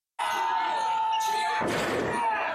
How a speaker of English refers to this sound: So here he body slams, but in a way that is absolutely careless for the central nervous system.